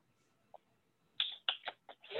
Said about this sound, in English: Hey, I hear typing. That's me. I'm not typing. That's me clapping. That's me using my hands.